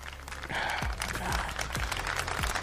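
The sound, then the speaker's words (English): A burst of applause sound effect, dropped in on request during a show, dense crackling claps that run steadily for a few seconds at moderate volume, with a few low sweeping tones dropping beneath it and no talking. “Anyways, can somebody drop a bomb or something, like applause?”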